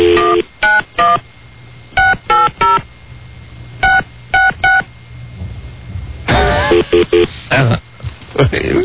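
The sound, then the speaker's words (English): Loud touch-tone phone dialing: short clusters of sharp beeps, mostly in quick threes, separated by pauses over a low line hum. Muffled voices and rustling come in near the end. “So now, what's the deal with the phone?”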